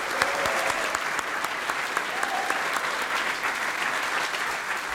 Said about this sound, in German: Einen wunderschönen guten Tag nochmal und herzlich willkommen zu dieser speziellen Veranstaltung in der Schweizer Botschaft. Ja, ihr könnt ruhig nochmal klatschen. Bravo!